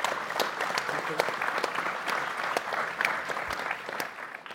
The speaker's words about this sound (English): Could I ask you to put your hands together and a round of applause for a very informative panel?